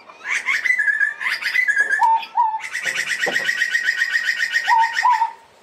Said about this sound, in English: Yeah, thanks for that alert, Butcher Bird.